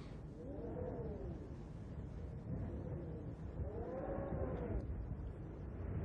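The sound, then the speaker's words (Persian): Two drawn-out sheep bleats, each wavering, separated by a short pause over a steady low rumble of background noise; the sheep is one sent to be sacrificed. “وانگاه خداوند گوسفندی فرستاد تا ابراهیم قربانی کند.”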